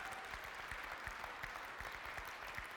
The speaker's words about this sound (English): Oh, you can clap. Come on.